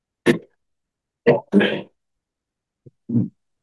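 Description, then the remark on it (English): A person coughs and clears their throat in several short, harsh bursts, with brief silences between them and one faint catch near the end. “I just took a cough drop.”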